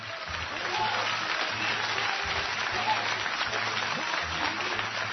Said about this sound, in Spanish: un aplauso.